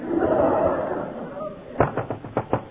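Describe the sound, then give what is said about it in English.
Someone bangs or kicks on an unlocked door with five or six heavy thuds in a quick, uneven burst, following a stretch of muffled voices in the background. “Is it with your boot? It ain't locked.”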